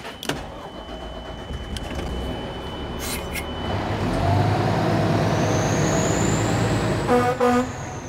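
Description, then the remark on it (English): A fire department truck driven by firefighter Anna rumbles along with a steady heavy engine drone, a high siren tone rising over it, then a couple of loud horn blasts near the end. No one speaks. “In case it's not clear here, that's Anna driving the fire truck.”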